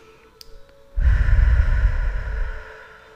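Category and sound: human body sound, slow deep breathing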